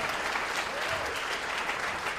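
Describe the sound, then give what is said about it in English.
An audience at a live show in Baltimore claps steadily for a couple of seconds for comedian Seth Herzog, a dense, even wash of many hands at a constant moderate level with no clear breaks. “That got less applause than a reference of T.J. Miller.”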